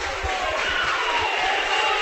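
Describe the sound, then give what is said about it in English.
A dense, steady roar from a large basketball arena crowd cheering after a layup and a foul, loud and continuous throughout, with no distinct voices or breaks standing out from the wash of noise. “I didn't hear the whistle because the crowd was so loud, but Kaysen Wendell hammered him on his way to the basket.”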